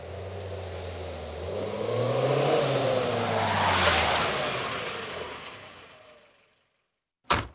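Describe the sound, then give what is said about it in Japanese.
A car engine hums steadily, then winds down and fades to silence as the vehicle comes to a stop, followed by a single sharp thud like a door closing. “いいから車止めて。”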